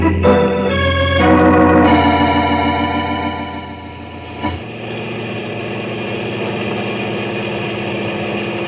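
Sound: car engine running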